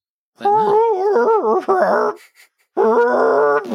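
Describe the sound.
A person vocally imitates an elk call: two loud, wavering, groaning bursts with rising and falling pitch, separated by a brief pause, sounding strained and eerie.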